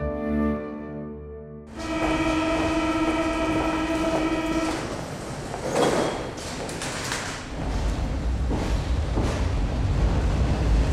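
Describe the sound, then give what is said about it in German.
A subway train runs by, its horn or whistle sounding in steady tones at first, then giving way to a loud, continuous rumble and rattling of wheels on track with no voices. “Mit der U-Bahn.”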